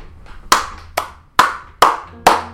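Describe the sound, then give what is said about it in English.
Five sharp hand claps at a steady, slightly uneven pace, marking the end of a video on the last of the 48 Laws of Power, each one a crisp bright smack with a short ringing tail, loud and alone with no voices. “Let's give it a clap.”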